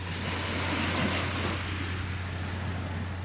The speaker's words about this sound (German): Und vielleicht hörst du im Hintergrund, wie schön hier die Wellen kommen und gehen.